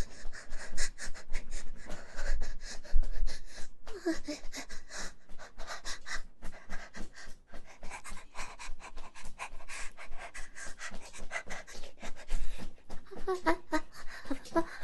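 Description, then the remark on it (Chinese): A father pants heavily and rapidly, with rhythmic loud breaths continuing steadily throughout and occasional faint voices in the background. “爸爸怎么在大喘气了呀？”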